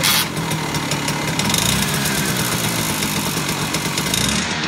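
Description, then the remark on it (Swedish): A small two-stroke moped engine, fitted on a type of moped called a flaka, runs steadily, its buzzing, raspy drone loud and continuous with slight revving fluctuations throughout. “Det är en tvåtaktsmotor.”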